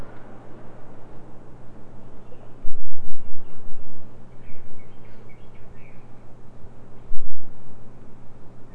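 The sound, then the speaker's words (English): Faint, scattered bird chirps sound over a steady hiss and a low hum, with brief bursts of rumbling noise in between. “Yeah, I hear those birds.”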